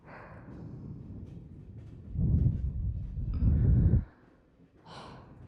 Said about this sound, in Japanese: 私たちの吐息よ。熱も。